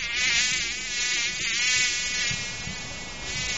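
housefly buzzing

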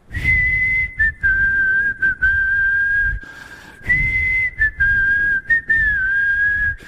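person whistling

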